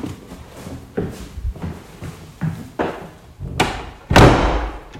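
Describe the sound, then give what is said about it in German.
A door in a theater is pushed shut after a series of dull knocks and bumps, ending in one loud thud as it closes. No one speaks. “Mach mal die Tür hinter dir zu, damit niemand kommt.”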